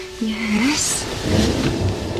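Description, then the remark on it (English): Low, rolling thunder rumbles beneath a steady hiss of storm noise, swelling in the second half, with a brief gliding tone near the start, as a storm with lightning gathers over the city of Florence at sunset. “Storm clouds gather over the city of Florence. The bright yellow sun sets in a dark blue and grey sky as lightning flashes.”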